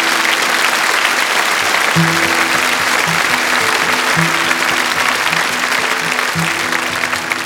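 A loud, steady round of applause from an audience at a live performance, given for a songwriter in the audience, fills the whole stretch, a dense wash of clapping, with a low instrumental tone sounding beneath it partway through.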